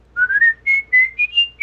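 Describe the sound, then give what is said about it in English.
A person whistles the Old Spice advertising jingle, a short, high tune of about seven quick notes that step upward in pitch, fairly loud, with no talking. “I can't do the whistle. It's too high.”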